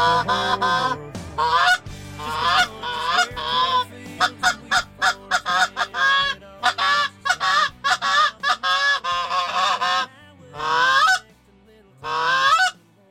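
A flock of geese honking loudly and continuously, harsh nasal calls overlapping in rapid bursts, with a few brief pauses before two final clusters of honks.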